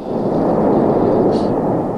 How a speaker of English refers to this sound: Well, the big booms that we're hearing are huge gas bubbles in the magma that are popping open. They may be 100 feet in diameter, and when they get closer to the surface, the pressure inside these gas bubbles is so great that they blow off the magma